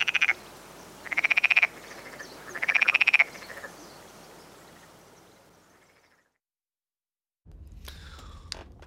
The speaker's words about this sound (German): Das finde ich ja gemein, der arme Frosch.